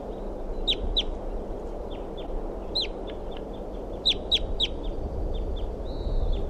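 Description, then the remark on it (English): A bird in a tree next to its nest tree gives a rapid series of sharp, high-pitched chirps in irregular bursts, with a steady low rumble of background noise underneath and no one speaking. “This is a bird in a tree next to the nest tree.”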